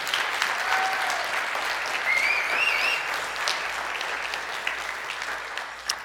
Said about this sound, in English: And so if you are glad today to be a part of the body of Christ, why don't you give God kind of a clap offering?